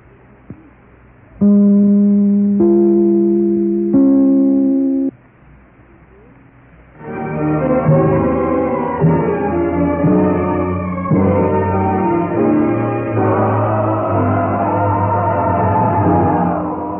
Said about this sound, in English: we'll be back in a moment just as soon as I ring my chime. This is NBC, the National Broadcasting Company.